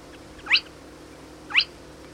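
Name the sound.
spotted crake call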